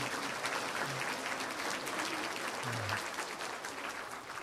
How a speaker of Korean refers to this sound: 우리 각자 옆에 앞 뒤에 계신 분들한테 박수로 한번 부활을 한번 축하하십시다.